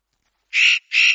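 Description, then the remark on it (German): Two harsh, raspy calls of a spotted nutcracker in quick succession, each a loud grating burst lasting about a quarter second, with silence before and a short gap between them. “Der Tannenhäher.”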